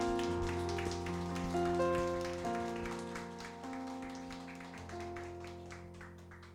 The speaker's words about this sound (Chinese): Amen， 拍手掌荣耀归神。